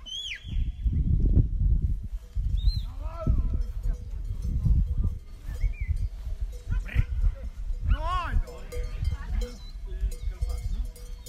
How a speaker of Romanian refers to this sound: Oh, și-a venit cățelul, unul mic și negru care a adunat toate oile. Bravo, bravo, ești tare. Așa, uite cum stau fetele la rând aici la treabă.